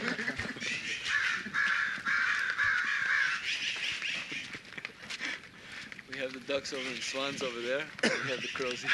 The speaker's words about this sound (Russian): Это ворон.